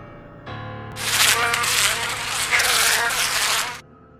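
A fly buzzes loudly and frantically for about three seconds as it struggles to break free, its whining drone wavering in intensity as if straining, set against a low steady hum, with no voices.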